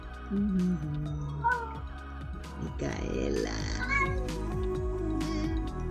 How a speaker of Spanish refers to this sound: Sí, mi gato habla. Si escuchan mi gato, el gato da sus mensajes también.